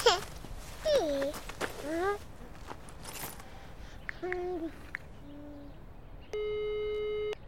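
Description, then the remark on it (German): A single steady electronic telephone tone buzzes on the line for about a second near the end as a mother places a phone call, following a few earlier hooting, whistling calls over a quiet background. “Mami möcht mal eben telefonieren.”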